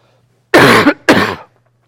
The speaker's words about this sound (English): Lasted longer than I expected, but pardon the coughing.